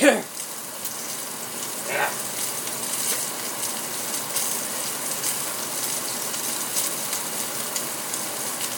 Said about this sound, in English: Right, what I'm doing at the moment is just putting some hot water in a jug with half a beef oxo cube.